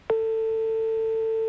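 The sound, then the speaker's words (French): A steady telephone ringback tone heard over the line, starting after a brief click and holding one continuous, even pitch for over a second, with no one speaking. “Vous entendez la sonnerie?”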